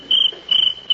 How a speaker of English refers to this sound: Ooh. I'll fix that cricket. Scat! Shoot! Beat it! There. I scared him away.